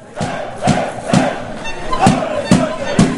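A large crowd of fans roars and chants in unison, with loud rhythmic thumps or claps landing roughly every half second, a boisterous, energetic welcome for Slovenia's national team at the airport after its plane landed, returning from the World Cup.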